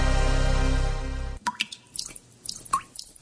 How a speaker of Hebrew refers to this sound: אחרי 4 שנות בצורת, הקיץ הזה משתמשים במים בחוכמה ומתקנים נזילות בכל ברז מטפטף.